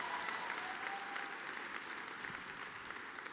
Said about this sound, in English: Somebody that's grateful for that, you ought to clap and give God praise.